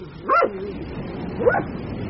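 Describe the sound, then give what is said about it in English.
A dog barks twice, about a second apart, each bark short and moderately loud against a quiet background hum, with no one talking. “He's Mr. De Winter's dog.”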